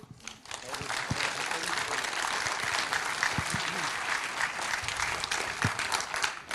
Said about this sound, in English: And at zero, we want the speaker to stop, even if the person didn't finish. And we do that by clapping really, really loud. And we can try this for now by, yeah, just clapping loud and welcome